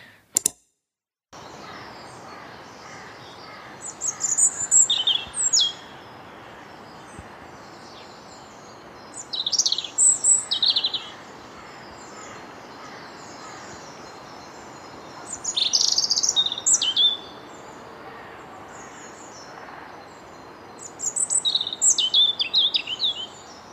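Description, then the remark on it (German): A European robin sings in four separate bursts of high, tumbling, warbling phrases, each a couple of seconds long with pauses between, over a quiet steady background hiss. “Ja, genau, das war das Rotkehlchen.”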